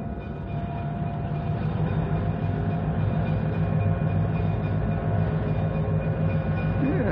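A locomotive rumbles steadily along the rails, a heavy, continuous low-pitched churn with faint rhythmic clatter and a thin metallic whine running through it, holding level throughout.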